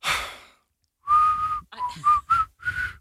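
A person whistles a short, halting tune of several clear notes, preceded by a breathy burst and a brief pause, with no talking.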